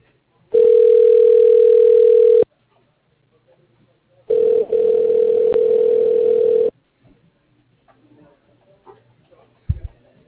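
Two long, steady ringback tones of a phone call, each about two seconds, heard through a telephone line with a pause between, followed by faint rustling and a soft click.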